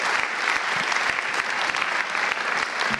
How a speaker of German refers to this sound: Herr Professor Leggewie, nochmal einen großen Applaus für Ihren inspirierenden Vortrag und für die angeregte Diskussion.